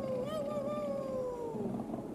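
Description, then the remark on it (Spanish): A human voice imitates the howl of wolves: one sustained, wavering howl that slowly slides downward, loud, lasting about two seconds with no other talk. “La otra, curtida en las batallas de la Segunda Gran Guerra, afloró cogiendo valor e imitó los sonidos de tales criaturas.”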